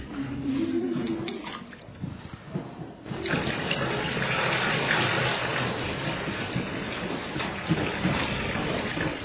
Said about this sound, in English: If you listen, you can hear this water singing. And because the Altar Guild are cool people, they even gave me extra water.